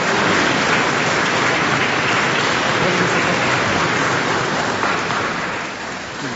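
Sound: audience applause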